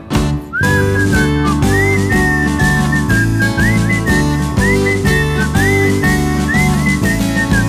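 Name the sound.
person whistling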